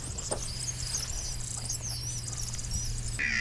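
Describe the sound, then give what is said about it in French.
A kingfisher's thin, very high-pitched whistles, heard on a guided nature walk, piercing calls that recur over a steady low hum and a busy chorus of chirping insects or birds. “Quand vous l'entendez, on ne peut pas trop le manquer en fait, le martin pêcheur.”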